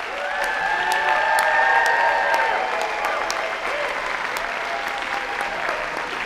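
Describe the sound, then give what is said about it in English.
An audience at Lovett Auditorium, Murray State University, claps steadily for several seconds for the student musicians of the university's Jazz Band, Blue Jazz Combo and Jazz Orchestra, a dense wash of applause holding at an even loudness, with a few cheers and some overlapping voices mixed in. “How about a round of applause for our student musicians?”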